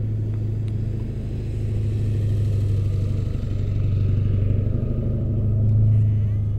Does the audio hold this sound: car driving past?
yes